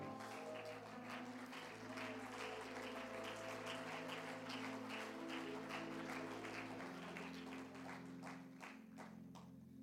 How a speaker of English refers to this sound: Oh, clap your hands to him tonight.